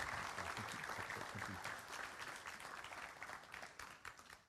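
An audience applauds, a dense, steady wash of many hands clapping that holds for several seconds and eases slightly toward the end.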